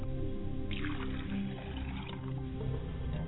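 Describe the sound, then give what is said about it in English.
Water pours steadily into a glass, poured as an offering for the ancestors of the mother's side of the family, a continuous splashing trickle lasting a few seconds at a moderate level, with no voices over it. “I pour a glass of water for my mother's side of the family, and I say Ajé.”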